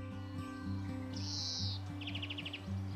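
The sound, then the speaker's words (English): A greenfinch sings a drawn-out wheezing buzz followed by a quick, bright trill of about eight notes, over a steady low hum in the background. “The greenfinch could be described as a green sparrow.”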